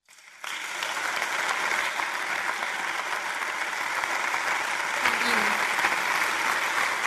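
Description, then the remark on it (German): An audience, asked to clap again, applauds four honorees and the volunteers and staff of the city of Ludwigsburg: steady, dense applause that starts abruptly and holds at an even, fairly loud level, many hands clapping together without pause until the end. “Darf ich Sie bitten, noch einmal zu klatschen, weil der Dank und der Applaus gehört nämlich den Vieren.”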